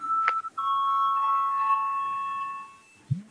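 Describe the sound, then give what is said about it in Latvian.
An electronic parliament voting bell chime sounds before a vote: a short tone followed by a long, steady ringing note with bright overtones that fades out over about two seconds. It is clear and fairly loud, with no talking. “Bet, Lūdzu zvanu.”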